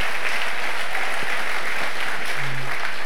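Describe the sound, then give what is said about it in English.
A packed room full of people claps steadily for Pastor John and Danielle, the dense patter of applause filling the space at a strong, even level, with a brief low tone rising beneath it near the end. “Come on, let's give them a big clap.”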